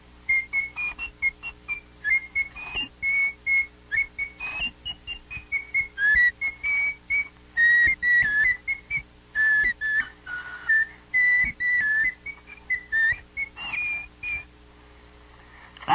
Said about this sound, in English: He could do better than that, though. He could whistle tunes. Yankee Doodle, for instance.